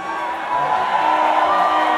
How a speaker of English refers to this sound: Listen, guys, some of you are cheering, some of you are flipping me off.